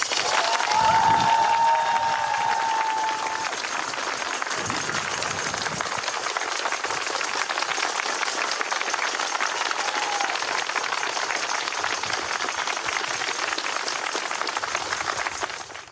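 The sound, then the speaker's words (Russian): Sustained applause from members of the Odessa Metropolis for a parish, a dense, steady wash of many hands clapping at an even loudness for the whole stretch, with a brief whistle-like tone early on and no talking over it. “И эти аплодисменты от нашей всей Одесской митрополии вам и вашему прекрасному приходу.”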